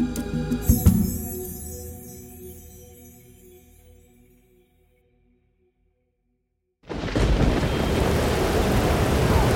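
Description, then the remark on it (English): A fading rumble gives way to a brief silence, then a night-time thunderstorm at sea bursts in loud: a steady roar of driving wind and crashing waves around a ship that continues to the end. “Lightning split the night sky above the masts of the Bantu Ray. The driving wind shook the Carrick's timbers, and then darkness returned to smother everything.”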